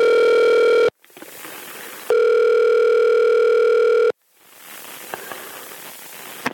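A phone line connecting on a call to Neil Gaiman: two long, steady electronic ring tones separated by hissy line noise, followed by crackling static and a few faint clicks. No one speaks.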